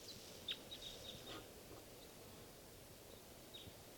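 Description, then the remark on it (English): Faint, sharp calls from at least two crossbills chip out in a quick cluster, then one more after a pause, set against a steady rushing, rustling background. “recording while crossbill”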